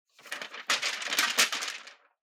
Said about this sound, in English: it's not all that helpful to just stand there rustling papers.